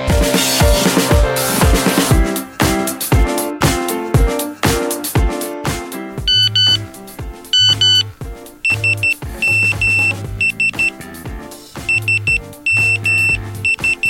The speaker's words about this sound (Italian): Come mi avete sentito, è appena arrivato un SMS, un messaggio di 160 caratteri che arriva sul telefonino, ma in realtà quello che è stato trasmesso è una sequenza di bit che è stata ordinata secondo un certo formato.